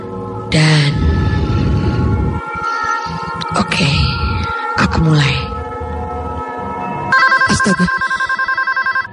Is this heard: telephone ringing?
yes